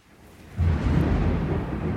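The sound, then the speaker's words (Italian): Thunder rumbles in after a quiet moment, a deep, heavy roll that swells suddenly and keeps growling steadily, fairly loud, with no voices over it. “È arrivato il tuono.”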